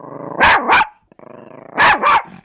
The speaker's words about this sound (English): You go from wolves to, here's the distinctive yip of the Chihuahua.